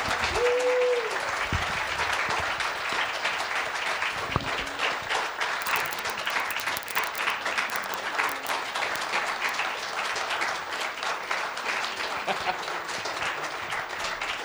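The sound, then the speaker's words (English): An audience applauds steadily for a returning pastor and his wife, a dense, even wash of many hands clapping at once, fairly loud, with no pauses or voices standing out. “Can I get a round of applause for them?”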